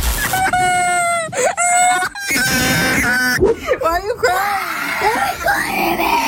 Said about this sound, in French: On voit fleurir sur les réseaux sociaux des vidéos de très jeunes joueurs en larmes ou qui hurlent, qui pètent un câble parce qu'ils se sont fait dépouiller leur Brain Rot, leur petit personnage, écoutez.